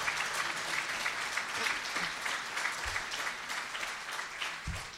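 An audience breaks into a round of applause, many hands clapping in a dense, steady wash of sound that holds evenly for about five seconds with no voices over it.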